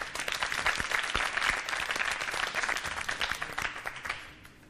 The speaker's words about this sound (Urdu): ان کے استقبال کے لیے تالیاں ہونی چاہیے.